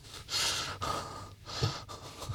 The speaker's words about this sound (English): Oh, I heard that. I heard that little gasp.